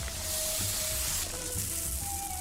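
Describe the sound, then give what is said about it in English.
A steady, hissing trickle of sand pouring out of shoes, a dense granular rush that runs evenly for a couple of seconds with no voices over it. “Hold on, I gotta dump out my shoes.”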